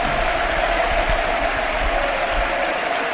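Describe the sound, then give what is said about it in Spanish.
The football crowd at the Camp Nou applauding and roaring as Leo Messi leaves the pitch, in a dense, steady wash of noise that holds at the same loud level for the whole stretch, with no voices standing out. “Yo creo que podemos escuchar al Camp Nou, es tremendo.”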